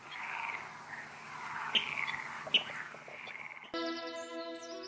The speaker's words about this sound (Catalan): I això és un rascló.